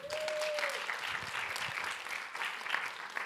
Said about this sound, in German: Genau, Applaus an Marco.